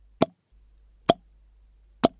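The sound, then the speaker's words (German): Three separate drops of water from a leak plop at a slow, irregular pace, each a short bright splash with a little ring, against an otherwise quiet background with faint low hum. “War da irgendwas undicht? Chloe kam oft nach hier unten, wenngleich widerwillig, und hatte dabei noch nie Wasser gehört.”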